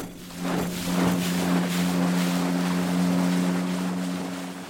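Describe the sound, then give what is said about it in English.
A small outboard motor drones steadily with a low, constant hum, mixed with rushing wind and water noise buffeting the microphone as the boat is steered under a steel bridge into the widest part of a lake. “Then he pulled the motor on and steered us under the steel bridge into the widest part of the lake.”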